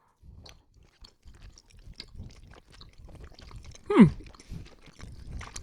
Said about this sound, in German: Ihr müsst da schon mal herzhaft reinbeißen. Also jetzt nicht so einen kleinen... Also so herzhaft oder süß? Nee, ihr müsst herzhaft reinbeißen.